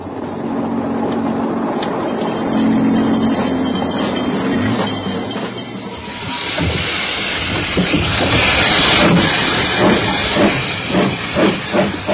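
A steam train at a station hisses loudly and steadily, then settles into a quickening series of rhythmic chuffs as it starts to pull away. No voices are heard.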